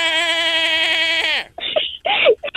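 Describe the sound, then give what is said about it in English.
A long, loud, strained bleat from a reindeer lasting over a second, followed by shorter rough grunting calls that could be the animal again or a voice. It sounds goat-like. “reindeers make really weird noises. They sound like goats sometimes.”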